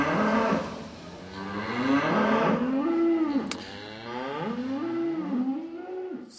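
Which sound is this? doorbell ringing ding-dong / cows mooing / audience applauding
cows mooing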